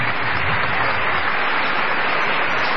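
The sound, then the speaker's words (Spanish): A crowd claps steadily throughout, a dense, sustained wash of applause from many hands at an even loudness, with no voices standing out; applause for a plough, with farmers of Agricultores Federados Argentinos present at the door with pitchforks. “Aplauso para el arado.”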